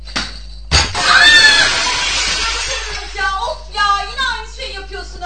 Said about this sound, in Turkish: Eyvah. Cam kırıldı. Lütfen ortalığı toplayın.